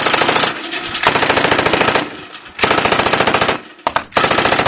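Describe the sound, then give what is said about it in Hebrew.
Rapid machine gun fire at about 1,000 approaching emus rattles out in loud, sustained bursts, broken by brief pauses before the next volley of sharp, rhythmic shots, with no voices. “ואז, ברגע המדויק, פתחו באש מטורפת.”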